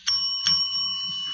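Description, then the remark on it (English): A doorbell rings with a bright, sustained metallic tone, struck twice in quick succession and then held ringing steadily, fairly loud, with no voices. “And try the bell.”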